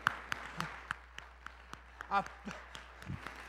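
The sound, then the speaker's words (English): Scattered, irregular handclaps from an audience, soft and sparse rather than full applause, with a brief voice or murmur rising midway through. “I felt y'all wanted to clap, and I wanted to give you the freedom to clap right there.”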